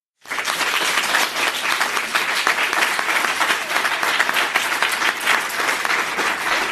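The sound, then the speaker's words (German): A live audience in a room, at a live recording, claps steadily after being asked to clap: a dense wash of many hands that starts abruptly and holds at full strength for several seconds without voices rising above it. “ich sitze hier gerade vor einem Publikum, es ist eine Live-Podcast-Aufnahme, möchte ich wissen, wer im Raum ist mutig? Bitte einmal klatschen.”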